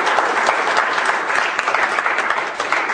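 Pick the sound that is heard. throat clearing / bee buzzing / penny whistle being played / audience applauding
audience applauding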